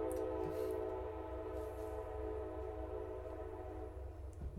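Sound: train passing by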